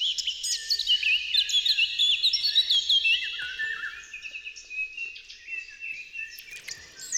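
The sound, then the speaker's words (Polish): A dense dawn chorus of many birds singing at once in a May forest, overlapping high trills, whistles and chirps that stay steady and fairly loud throughout, with no voices. “Wsłuchiwanie się w ich koncert, zwłaszcza rankiem, w cienistym grondzie lub bujnym łęgu, przypomina nieco pobyt w lesie tropikalnym.”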